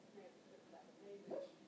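A sleeping dog, Toof Toof, gives soft, muffled whimpers while dreaming, ending in a short, high yip that rises sharply in pitch. Everything is quiet, with no talking.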